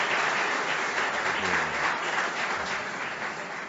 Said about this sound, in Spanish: Un aplauso